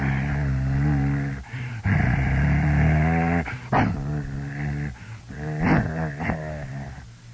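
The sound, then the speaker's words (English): Dogs growl continuously from down below the floor in low, deep, rumbling voices, the sustained growls broken by a few sharper yips and rising whines, with no talking. “This can't be dogs down there. They had these low voices, low, rich, deep voices.”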